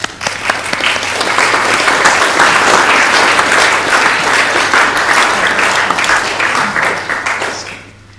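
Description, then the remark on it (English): An audience at a church worship service applauds steadily for about eight seconds to welcome two people, a dense, loud wash of many hands clapping that swells quickly and then fades out at the end. No one speaks over it. “And maybe we could welcome them with a round of applause.”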